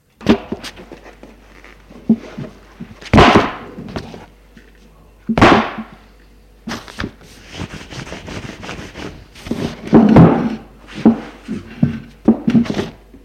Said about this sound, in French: Elle quitte ses chaussures et sa veste qu'elle met sur une chaise.